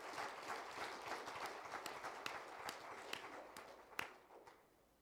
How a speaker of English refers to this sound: Why don't we clap our hands to the Lord and let Him know.